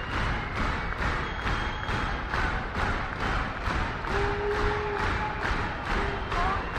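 audience clapping rhythmically

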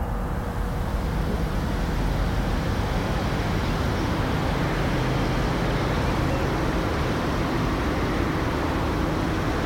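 distant car traffic

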